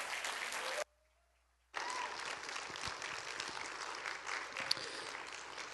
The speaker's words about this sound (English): and we're going to invite any of our graduating seniors that are here to come up and join us on platform as well. Would you give them a round of applause as they also come this morning?